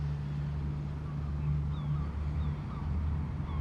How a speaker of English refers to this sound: A boat cruises towards the shore.